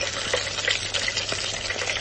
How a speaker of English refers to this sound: I'm sure you can all hear the beautiful frying of this wonderful batter-coated fish, which is such a wonderful idea for the 9 days.